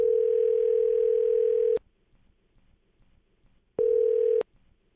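A steady telephone line tone hums loudly for nearly two seconds as K99.1 FM radio hosts dial a listener's number, cuts off with a click into near silence, then returns briefly in a second shorter burst, with no voices.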